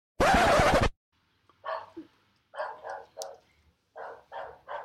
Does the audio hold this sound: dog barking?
yes